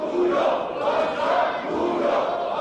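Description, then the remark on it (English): Many MPs from the governing party shout angrily at once in a parliamentary protest over the impeachment of Prime Minister Han Duck-soo, a loud, unbroken roar of overlapping yells with a few raised tones rising above the din throughout. “Those absolutely dramatic scenes that you were just playing then, that we were just hearing from the parliament.”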